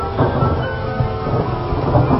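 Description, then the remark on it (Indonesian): Rain starts to fall at night on a quiet intercity road beyond Bogor and Sukabumi, Indonesia, while someone rides a motorbike: a steady, dense hiss with a deep rumbling undertone, continuous and fairly loud throughout, with no voices present. “hujan mulai turun.”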